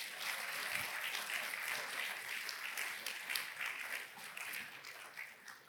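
audience clapping

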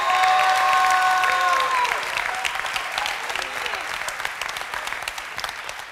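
audience hand clapping

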